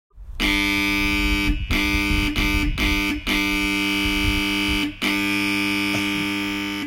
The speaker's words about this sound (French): appuyer sur le bouton de la sonnerie est une responsabilité. Donc certains enfants ont quelquefois une interprétation de la sonnerie très particulière